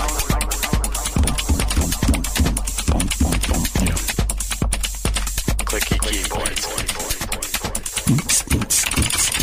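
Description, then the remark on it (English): A rave song made entirely of clicky mechanical keyboard sounds: rapid, crisp clicks fire in a steady, dance-like rhythm over a deep, constant bass hum, forming a dense, loud beat with no talking. “keyboard nerds who have an overlap with music skills, if you can make a rave song composed entirely out of clicky keyboard sounds and send it, that would make me very happy.”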